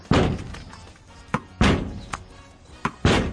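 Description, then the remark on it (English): A tennis ball thuds against a hollow metal garage door three times in a steady rally, as the UK's number one tennis player hits against his parents' garage door; each booming hit is followed by a sharper tap in between. The hits are loud, with no talking. “Tennis now, and an exciting game in store as UK number one Daniel Evans takes on his parents' garage door”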